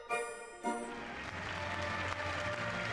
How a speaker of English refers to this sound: Applause. I think they really loved it.